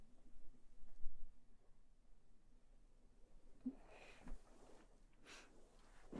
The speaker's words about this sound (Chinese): 完了，又咳嗽。为什么我一咳，我的脸就通红的？